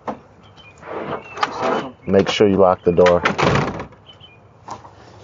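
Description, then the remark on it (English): A door slides and thuds shut and is locked with a few clunky mechanical movements, fairly loud, while a voice speaks over part of the sound. “Make sure you lock the door.”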